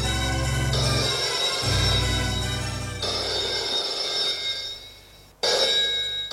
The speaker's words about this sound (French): Dans la soirée, elle est chez elle, au salon, le téléphone sonne.